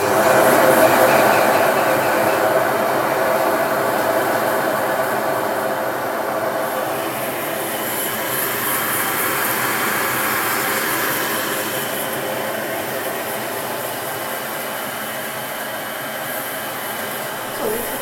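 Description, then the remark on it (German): A lab grinder in the practice's basement lab whirs loudly and steadily against an acrylic (PMMA) eye prosthesis, a continuous high-pitched motorized grinding with a harsh hiss, its tone shifting slightly as pressure changes throughout. “So, Achtung, es wird laut, ich schleife.”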